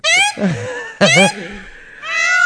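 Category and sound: bird, peacock calling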